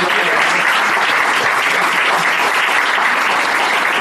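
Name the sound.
audience applause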